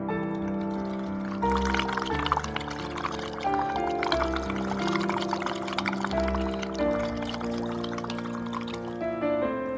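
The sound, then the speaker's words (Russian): Water is sprayed from a spray bottle into a large plastic bucket held above a DJ table, a steady, continuous bubbling, splashing stream for about ten seconds, mixed with sustained droning musical tones whose chords shift every few seconds. No one speaks. “Она подняла большое пластиковое ведро над столом диджейским и заливает туда из пульверизатора мелкодисперсный, значит, пыль из воды.”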